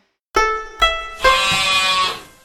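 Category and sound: animal, sheep bleating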